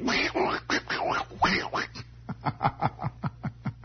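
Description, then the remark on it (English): Donald Duck's quacking voice from the Donald Duck cartoon series, speaking Landsmål, babbles in raspy, garbled syllables, then breaks into a quick, regular run of about ten short quacky bursts, clear. “Have you ever heard Donald Duck? He speaks a pretty difficult brand of English, you know.”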